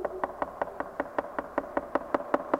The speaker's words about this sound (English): Somebody's knocking at our door.